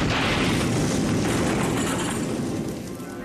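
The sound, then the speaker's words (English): A loud, booming blast at a laboratory station, with a dense roar of rumbling noise that holds for a few seconds before gradually fading, with no voices. “And a few moments later, I heard a loud explosion.”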